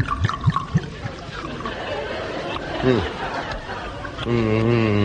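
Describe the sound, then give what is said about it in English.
A dry 1974 Valpolicella wine from a hillside near Verona trickles steadily from a bottle into a glass for a few seconds as a waitress pours a little taste in a restaurant, with background chatter and a man's voice speaking near the end. “Could you pour me a little taste from that bottle of Valpolicella?”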